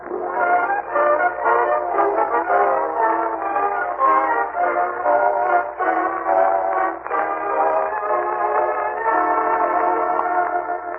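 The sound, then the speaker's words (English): A train rumbles steadily through the Summerfield Railroad Station, its dense, grinding roar holding constant throughout, with layered metallic tones suggesting horn or whistle blasts mixed in. No voices. “He and Marjorie and Leroy wait in the Summerfield Railroad Station for the arrival of that well-known authoress, lecturer, and second cousin, Octavia Gildersleeve.”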